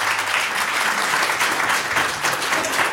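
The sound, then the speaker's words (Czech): Steady, dense audience applause for Michal Kocáb at a discussion on 35 years since the Velvet Revolution, a broad wash of many hands clapping at an even, fairly loud level with no voices standing out. “Potlesk pro Michala Kocába”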